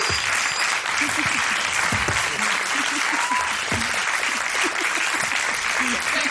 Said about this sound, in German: Ein warmer Applaus nochmal bitte.